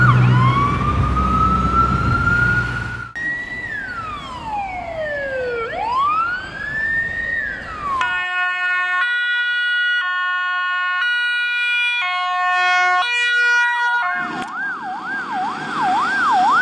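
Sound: ambulance siren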